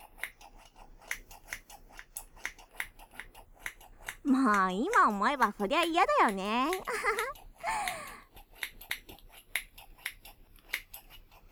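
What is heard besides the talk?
toy scissors snipping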